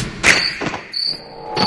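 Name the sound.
crickets chirping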